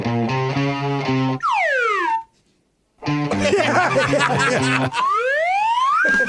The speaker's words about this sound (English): The slide whistle can make any song sound better. That's right.